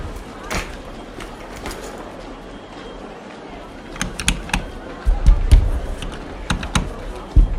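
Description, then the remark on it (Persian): Rustling and scraping handling noises, then a cluster of sharp knocks and thumps as a cooler is picked up and shifted on a train, over a low background murmur. “ببخشید، اجازه بدید من این کولر بردارم.”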